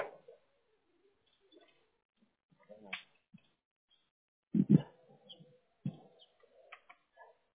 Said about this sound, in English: Is that your dog? He's gonna run.